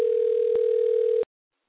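A steady electronic telephone ringing tone heard through a phone line while calling a number back, loud and continuous for just over a second with a tiny blip midway, then cutting off into silence.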